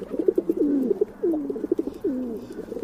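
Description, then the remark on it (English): Soft, repeated dove cooing with low, rolling notes that swoop downward in a steady rhythm, heard alone against a faint background hum. “When we think of a bird to represent peace, many of us think of doves.”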